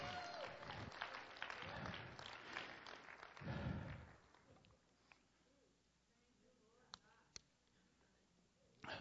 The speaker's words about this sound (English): And he is coming again. And the one who makes all things new. Hallelujah. Let's give him a clap.